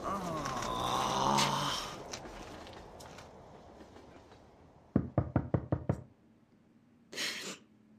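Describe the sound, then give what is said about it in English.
A quick run of six or seven firm, loud knocks on a closed door, coming after a quieter stretch with some muffled vocal sounds, then a short rustling burst. “The door is shut for a reason”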